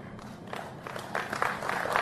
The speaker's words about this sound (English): Now, here's what I found fascinating is there was a massive crowd there. Very sporadic applause. Hardly, nobody knew what to do.